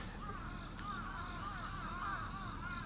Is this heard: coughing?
no